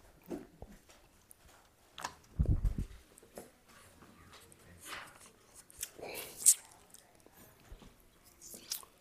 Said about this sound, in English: I want to read you this verse here. Ephesians 2, verse 1 through 2. I'm going to read you what Paul says. But I hear somebody turning pages, so I'll give you a sec to get there. I'll give you a sec.